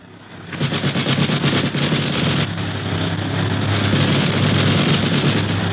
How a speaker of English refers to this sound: the boys prepare for trouble, and not a moment too soon, for the other plane opens fire with a machine gun.